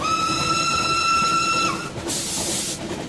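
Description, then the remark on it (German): A steam train arriving at a railway station sounds a long, steady whistle over a low rumble, then it cuts off and a loud burst of hissing steam follows, with no one talking. “kam Anfang der 60er Jahre mit dem Zug aus Madrid am Münchner Bahnhof an”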